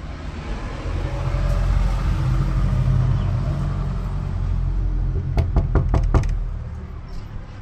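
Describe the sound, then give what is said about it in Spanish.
Several sharp knocks on the door of a friend's home in the same neighbourhood, about five in quick succession, heard over a steady low rumble of traffic or an idling engine in the background. “Vive casi en el mismo barrio el gaucho, así que le golpeé la puerta.”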